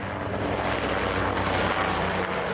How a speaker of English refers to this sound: U.S. military helicopters swarmed over the capital as American soldiers and Iraqi officials and policemen perished in a series of attacks by insurgents in and around Baghdad and in northern Iraq.